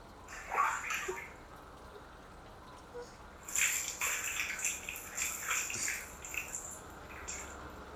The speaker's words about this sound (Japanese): お湯かけますね。